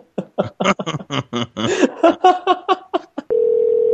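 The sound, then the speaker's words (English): A rapid string of short telephone keypad beeps, about a dozen in quick succession, followed by a steady, continuous dial tone that holds clearly to the end, fairly loud. “Hey, I'm calling about the Ojibwa doll.”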